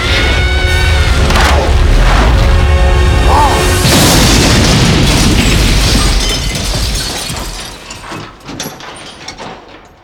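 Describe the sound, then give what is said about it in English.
A fuel truck explosion: a loud, sustained rumbling boom gives way to a burst of crashing, shattering debris as the bridge collapses and a digger and other vehicles fall into a void, then the clatter of falling wreckage slowly thins out into scattered knocks and creaks. “The explosion wrecks the bridge.”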